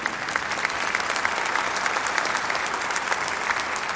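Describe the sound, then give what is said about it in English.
A large audience claps steadily, a dense, sustained wash of many hands applauding at once, loud and continuous throughout with no voices standing out. “Which is the, you can clap if you want.”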